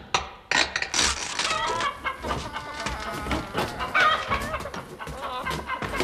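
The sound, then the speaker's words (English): A noisy flock of chickens clucks and squawks continuously, several overlapping calls, busy and fairly loud throughout with no pauses. “Immediately on arrival at the Oasis, we began to open the crates, having first disguised ourselves as chickens.”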